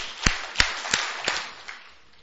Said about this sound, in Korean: 자, 정말 나는 정말 내가 사는 것이 아니라 내 안에 그리스도께서 사는 것이다. 정말 그것이 아멘이 되는 사람은 박수 한번 다섯 번 쳐봅시다. 시작.